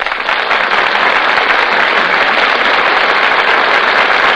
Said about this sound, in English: That applause you hear, ladies and gentlemen, tells you that our stars have just come out before the footlights and taken their places at the microphones.